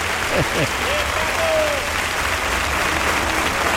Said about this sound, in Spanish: Qué ovación se está llevando el maestro. Reconocimiento total. Reconocimiento de la trayectoria. De Ruiz Miguel, prácticamente de aquí.